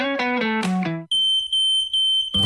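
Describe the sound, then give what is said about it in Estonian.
A piercing, high-pitched smoke detector tone sounds loud and close for over a second, holding steady with slight pulses, just after a brief run of descending musical notes. “Õnnetus ei hüüa tulles, küll aga annab see endast märku piiksudes.”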